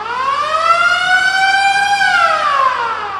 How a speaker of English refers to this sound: My gym is the Planet Fitness in Fishtown, and if you remember there, you've probably heard the lunk alarm. It's an alarm that goes off if you make too much noise lifting weights. It kind of goes like this.